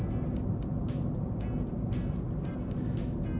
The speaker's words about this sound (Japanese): おー、結構車来てるね。